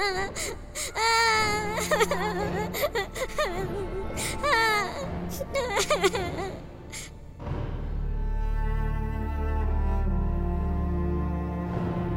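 A child cries and whimpers in wavering, wailing sobs for several seconds, fairly loud, before the crying gives way to a low, steady droning background.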